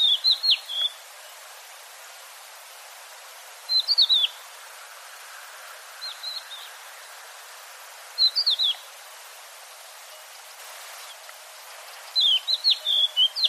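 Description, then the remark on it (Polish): A crested lark sings short, clear whistled phrases, repeated about every four seconds with pauses between, against a quiet outdoor background with no voices. “Piosenka dzierlatki nie jest tak skomplikowana jak piosenka innych skowronków i właśnie teraz dla Państwa wystąpi dzierlatka.”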